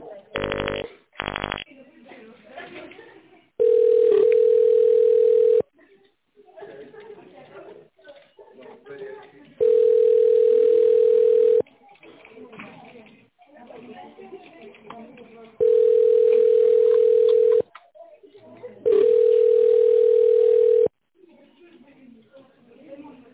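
A phone line rings back with four long, steady, mid-pitched tones of about two seconds each, separated by quieter muffled sound, after a brief burst of harsh line noise at the start.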